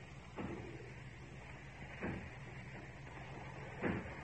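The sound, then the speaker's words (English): Three heavy, muffled thuds strike a factory door at slow, uneven intervals, like someone pounding to break it down, over a steady low background hum. “As if they were breaking down the door.”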